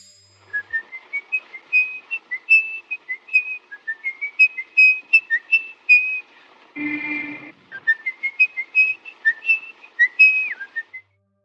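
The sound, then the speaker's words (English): Actor Peter Lorre whistles a lively tune in a 1931 movie, a steady run of clear, bouncing notes, briefly interrupted by a short rough burst of noise before the melody resumes and trails off. “The person whistling in this clip is actor Peter Lorre.”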